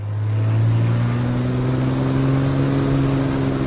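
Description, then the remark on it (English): A small aircraft engine revs up before takeoff on an elephant-counting survey flight in Botswana's far north, a loud, continuous droning roar with a low humming tone that climbs slightly in pitch at first, then holds steady throughout. “Getting ready to fly in Botswana's far north.”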